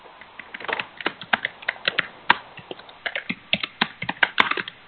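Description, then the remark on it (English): Rapid, irregular clatter of keys being struck on a computer keyboard during an online committee meeting, fairly loud, with sharp clicks bunching into quick bursts and short pauses, no voices. “So someone is typing very loudly in all of our ears.”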